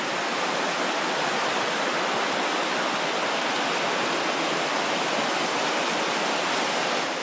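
A hot waterfall gushes out from inside a volcano, steam rising, on the Shiretoko Peninsula, in a steady, unbroken roar of rushing water, loud, with no voices or other sounds breaking through for the whole stretch.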